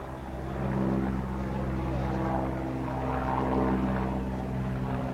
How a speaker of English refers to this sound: On the outskirts of Skhinvali, a Russian military helicopter soars into the sky.